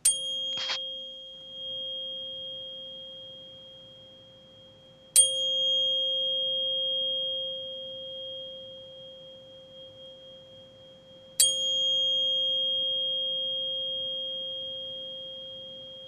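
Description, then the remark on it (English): A 528 hertz tuning fork is struck three times, each strike a sharp metallic click followed by a pure, steady sustained tone that slowly fades before the next hit. No one speaks. “this is a special tuning fork, and it's five. It's 528 hertz, and it's a love vibration, actually, and I've got a healing crystal with it, too.”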